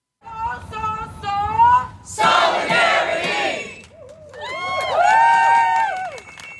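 A lively crowd at a teach-in in front of Richardson Hall on Friday, where professors delivered lectures, cheers loudly: high, sustained whoops and shouts, then a burst of noisy roaring, followed by more rising and falling yells and a shrill whistle.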